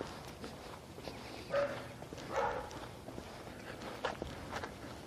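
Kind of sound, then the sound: animal, dog barking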